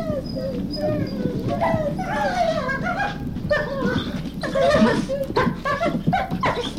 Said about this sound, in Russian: Вот видите, ребятки, как они разговаривают, волки на своем языке.